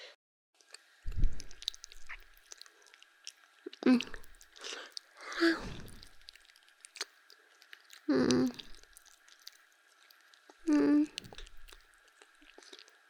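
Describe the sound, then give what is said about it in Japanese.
Wet mouth sounds in the style of ASMR ear-licking: several separate slurping, smacking bursts spaced a second or two apart, with a faint steady hiss between them and no talking. The water sounds are made with a learned mouth technique called tatami beatbox. “畳ボイパって呼んでるんだけど、その水音の出し方をね、習ったの。”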